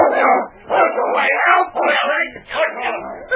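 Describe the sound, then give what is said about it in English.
A large dog growls and snarls, a rough, continuous rumble that surges in several aggressive bursts over a few seconds. “He was awakened suddenly by a deep growl and opened his eyes to look into the snarling jaws of a huge dog a few inches from his throat.”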